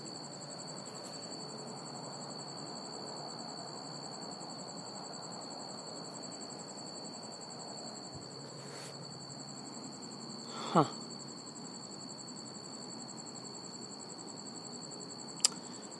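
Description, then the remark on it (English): A cricket up in a tree chirps steadily in a high, continuous trill against faint background hiss, stopping and starting, with a couple of brief clicks partway through and no voices. “And it's definitely a cricket, you know, stridulating cricket.”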